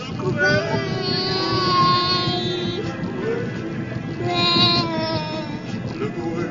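A small child sings in long, wavering high notes, close to the microphone, over the steady low rumble of a moving car.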